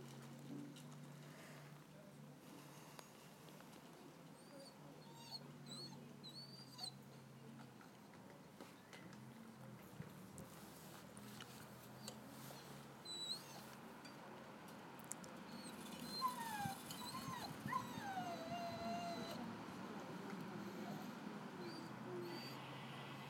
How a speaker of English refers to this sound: Dog sounds really sad.